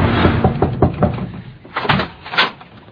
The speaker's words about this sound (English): Who are you? Who are you? You don't ask me who I am. You're knocking on my door.